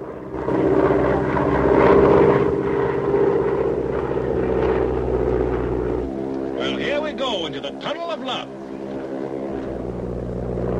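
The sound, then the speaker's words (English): A steady propeller engine drones throughout, loud like a small plane flying low as it cruises over rocks and down into a canyon, its pitch shifting partway through as a man speaks over it. “The plane cruises over some rocks and down into a canyon.”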